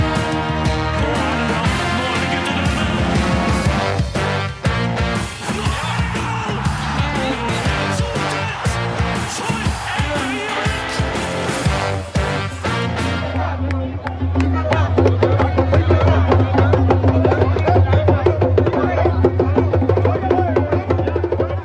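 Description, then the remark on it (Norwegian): A loud crowd of fans in Ivorian jerseys with flags sings and chants over steady, driving drumbeats as the Ivory Coast team bus arrives at its hotel in Dallas. Around the midpoint the sound turns duller and more muffled while the rhythmic pounding and singing carry on. “Det var lyden av bussen til Elfemennkysten som ankom hotellet sitt her I Dallas til et oppmøte jeg knapt kan huske å ha sett maken til, I hvert fall til bussankomst på hotell, gutter.”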